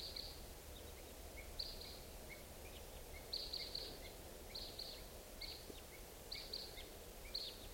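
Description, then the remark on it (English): Red crossbill type 2 flight calls from two birds coming around at 6:55 in the morning: short, sharp, high-pitched 'kip' notes given singly and in quick pairs at irregular intervals, fairly faint over a steady low background hiss, with no voices. “It's 6:55, and I hear crossbills, type 2s coming around.”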